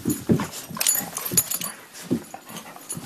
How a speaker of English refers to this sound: And these dogs are all over me.